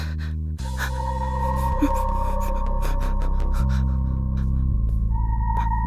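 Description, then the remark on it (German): Labored, gasping breaths come in short, ragged pulls over a loud, steady droning tone that shifts pitch a few times. No one speaks. “Das Atmen fiel ihr schwerer, immer schwerer.”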